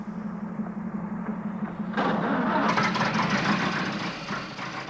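car engine starting

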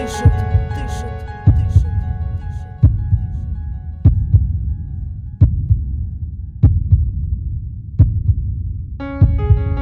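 heartbeat

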